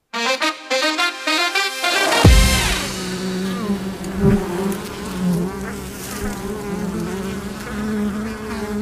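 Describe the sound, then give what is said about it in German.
Wild bees buzz steadily, a dense droning hum. It opens with a brief run of plucked tones and thickens into a continuous swarm of overlapping buzzing, with no talking. “Eine Zukunft, die summt. Und zwar hörbar, sichtbar und messbar.”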